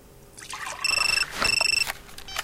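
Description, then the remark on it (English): Water pours steadily into a cup as a cup of tea is made at a police station at 4:15 a.m., while two bursts of a high, warbling electronic phone ring cut in over it, each lasting about half a second. “She's making a cup of tea when she receives a phone call.”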